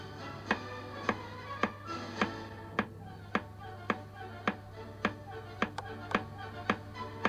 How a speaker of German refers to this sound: Der Takt ist etwas Regelmäßiges, wie etwa das Ticken einer Uhr. Hört einmal zu, wie es tönt, wenn ich zu einem Musikstück den Takt klopfe.